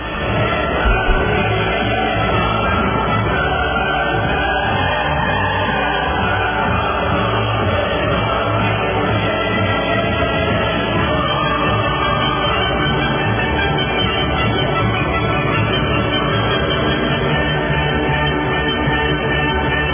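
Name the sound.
applause and cheering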